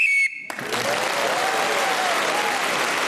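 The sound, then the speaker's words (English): A short, shrill whistle blast marks the end of a round in a panel game, then gives way to loud, steady applause from an audience of about 700 people that carries on to the end. “So Sue Perkins was again speaking as the whistle went, gained that extra point and has increased her lead.”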